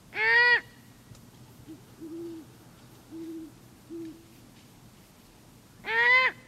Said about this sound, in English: So if you hear any screams, even as late as October, it could be the begging cries of teenage owls.